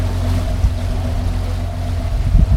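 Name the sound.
boat departing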